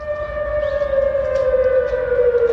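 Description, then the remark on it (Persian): A loud civil defense warning siren alert in Seoul, South Korea, sent to residents' mobile phones during North Korea's satellite launch, urging them to prepare for possible evacuation, wails in one long, steady tone that drifts slightly lower in pitch, holding continuously with no voices over a low background rumble. “همزمان با پرتاب این ماهواره، ساکنان سئول پایتخت کره جنوبی آژیر هشداری روی تلفن‌های همراه خود دریافت کردند که از آنان می خواست برای تخلیه احتمالی خانه‌های خود آماده شوند.”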